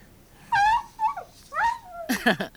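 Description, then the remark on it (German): A small dog whimpers in a couple of high, wavering whines, then lets out a quick cluster of sharp yaps, loud, with no talking. “Hör auf zu kläffen, du verdammte Tröle!”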